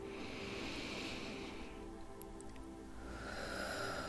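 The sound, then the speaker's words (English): A deep breath drawn in through the nose during a guided breathing exercise, breathy, with a steady rushing hiss that fades midway and then swells again near the end. No one speaks. “So, I'm going to kind of, so as I pull, or as I grab a hold of this string, if you will. You're breathing in.”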